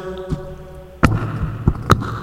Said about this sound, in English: What are you doing? I'm going down in my basement. All right. Okay, I don't know where exactly, I'm banging in the floor,